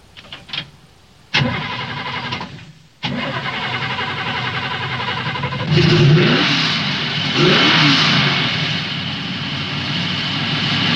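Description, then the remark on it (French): A car engine, tuned for more power, cranks and catches, cuts out after a moment, then fires again into a loud idle, swelling through two rising revs. No voices. “Et puis bien évidemment, les voitures que j'ai préparées un petit peu, quoi, hein, histoire d'avoir un peu plus de puissance. Ok, start it.”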